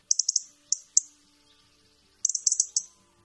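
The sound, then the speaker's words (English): A robin's warning call: sharp, high-pitched ticking chirps in quick bursts, a rapid run of four, two lone notes, then another fast cluster, against a quiet background. “This is not a typical sound like singing. Yeah, it's a warning call.”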